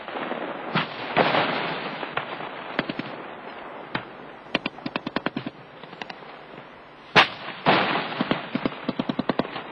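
Recorded sound of a military training exercise battle, the southern side retreating under the northern side's assault: dense gunfire with rapid bursts of sharp cracks, interspersed with heavier booming explosions and a continuous rumbling roar underneath; no voices.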